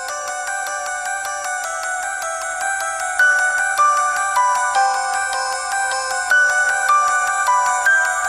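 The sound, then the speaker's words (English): A bright, electronic ringing melody plays continuously with no voices, its repeating high notes chiming in a steady, insistent pattern like a phone ringtone, loud. “Singing. Ringing tune.”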